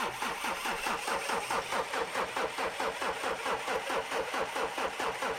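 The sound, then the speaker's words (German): A Unimog's engine cranks over and over as the driver turns the key, in a steady, rapid rhythm without ever catching, the starter grinding loudly for several seconds with no voices. “Aber der Motor startet nicht.”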